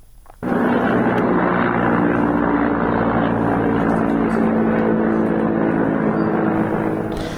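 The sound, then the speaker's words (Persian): A loud, steady engine roar with a low droning hum fills the air from just after the start, as helicopters fly over the city of Mahabad, continuous and sustained without any talking. “همونطور که در خبرها هم شنیدیم، پرواز هلیکوپترها بر فراز شهر مهاباد گزارش شده. تعداد زیادی هم ویدیو که این پرواز هلیکوپترها رو نشون میده منتشر شده.”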